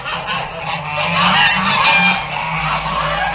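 A flock of geese cackles and honks continuously, a dense, loud chorus of overlapping calls, with no talking.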